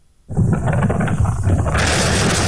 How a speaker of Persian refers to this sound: هنوز اندکی از ساعت 5 صبح سپری نشده که صدای انفجار مهیبی در دل کوههای قائمیه در حاشیه زاینده رود می‌پیچد. انفجار با نیروگاه برق اصفهان، قدیمی‌ترین نیروگاه برق این استان، ارتباط دارد.